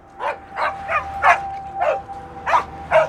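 A dog chained to a fence out back barks repeatedly, about seven sharp barks in a steady, insistent rhythm, moderately loud, with no voices and only faint background hum between them.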